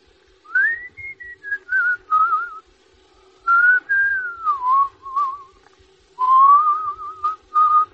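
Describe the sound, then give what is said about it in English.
Someone whistles a slow, wavering tune in three phrases with short pauses between them, clear, the melody rising and falling with no talking over it. “That you're whistling.”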